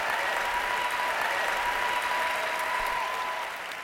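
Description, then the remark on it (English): Sustained applause from an audience for Terry Gross and Mark Maron after their onstage conversation, a dense, steady wash of clapping that holds loud throughout and only begins to thin slightly at the very end. “Please, another round of applause for Terry Gross.”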